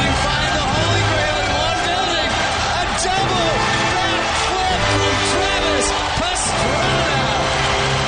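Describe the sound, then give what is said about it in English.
A large crowd at X Games 13 stands and cheers on Travis Pastrana, rider number 199 on a Suzuki 125. It roars steadily for the whole stretch, a dense wall of voices with scattered whoops and shouts rising out of the din, loud and unbroken throughout. “The world is watching as Travis Pastrana, everybody in this house, wow, is now standing up and cheering on the 199.”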